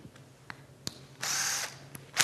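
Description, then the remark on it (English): A few sharp clicks, then a cordless impact driver, which has a little hammer inside that pounds around for more torque, whirs loudly for about half a second, stops, and kicks on again at the very end, in South Dakota. “I just bring along my impact driver. It's not a drill.”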